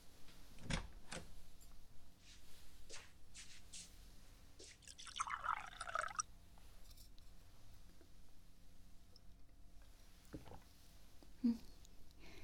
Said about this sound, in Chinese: 小家伙，太贴心了，还给姐姐倒水呢。